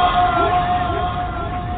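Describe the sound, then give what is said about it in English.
A dense wash of crowd noise from a wrestling audience during a standoff between Styles and Nakamura, loud and steady throughout, with sustained cheering, a few rising shouts and a persistent tonal hum underneath. “The crowd went mental.”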